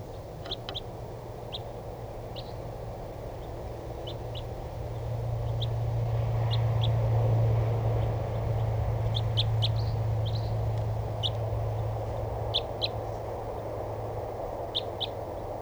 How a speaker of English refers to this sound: A couple of more crossbills just came in here. I'm not sure what call type, but the decoys got excited. And there's two of them. At least, oh, there's a whole flock. And the other wild bird is calling. These sound like type 2s.